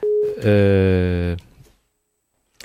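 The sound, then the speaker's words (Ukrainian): A telephone line tone from an incoming call sounds loud: a brief pure steady note, then a harsher buzzing tone lasting about a second, cutting off into near silence with a faint click at the end. “Хтось нам телефонує там?”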